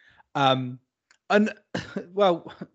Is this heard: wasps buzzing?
no